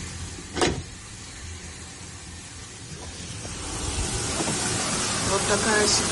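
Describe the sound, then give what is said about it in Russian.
Water gushes from burst pipes behind an apartment door in an apartment block in Klimovsk, Podolsk, Moscow Region, Russia, during frosts, in a broad, steady hiss that swells louder partway through and keeps pouring, after a brief sharp knock at the start. “8 утра, у нас за дверью шумит, что-то течет.”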